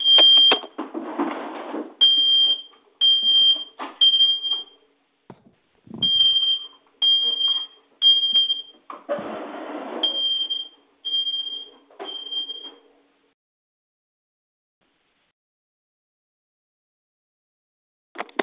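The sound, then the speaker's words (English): A smoke detector alarm beeps shrilly and repeatedly in short bursts, loud, with rustling, clattering noise mixed underneath, then cuts off into silence; it went off without a fire. “That was my smoke detector went off.”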